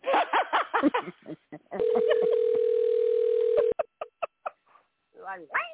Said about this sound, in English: Whose phone is ringing?